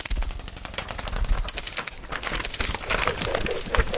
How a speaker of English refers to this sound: And here comes the mail owl.